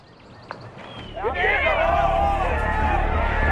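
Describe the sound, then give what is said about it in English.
After a brief hush, a large golf gallery erupts at a putt into a loud, sustained roar of cheering and voices yelling "Get in the hole" that swells quickly and carries on to the end. “"Get in the hole." they all would yell, "Get in the hole."”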